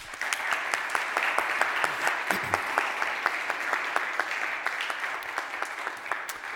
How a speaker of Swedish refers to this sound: Vi ger dig en stor applåd.